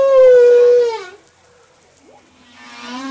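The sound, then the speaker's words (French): Humpback whale song recorded off Madagascar with the association Cetamada: a loud, drawn-out harmonic moan that slides slightly downward, a short hush, then a lower sustained tone that swells back up. No voices. “Alors, aidez-nous, Olivier Adam, à analyser un chant de baleine que vous avez enregistré au large de Madagascar.”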